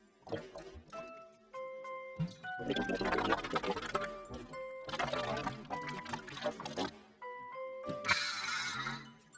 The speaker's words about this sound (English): I was swishing the water in my mouth. You guys wanna hear it again?